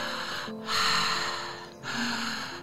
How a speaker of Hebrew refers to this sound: ומה שנתחיל לעשות זה לנשום באופן עמוק יותר. אז אנחנו רוצות לנשום מהפה.